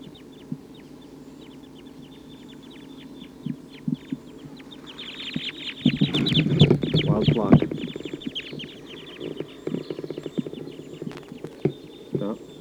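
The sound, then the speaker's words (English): A restless flock of about 14 wild birds, type 2 crossbills, perched in the treetops, call with short, high chirps in a steady scatter, the calling swelling into a busy, louder burst midway over a low rumble before thinning out again. No voices. “The wild birds are giving a lot of calling from the treetops.”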